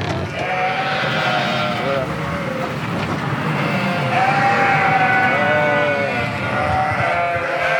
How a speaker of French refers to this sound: une brebis va bramer dès qu'elle va voir quelqu'un arriver